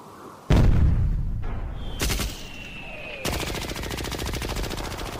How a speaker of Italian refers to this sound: Spari come urla, urla come spari. Questo è il nostro paesaggio sonoro principale.